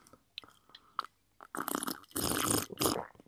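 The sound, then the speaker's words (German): A few small wet mouth clicks, then loud, exaggerated slurping in three long, noisy pulls, with no talking. “Ich habe das ein bisschen übertrieben. Ich schlürfe so gerne.”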